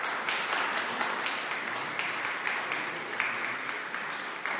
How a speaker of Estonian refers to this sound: Nii et aplaus!